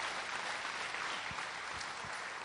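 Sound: audience applause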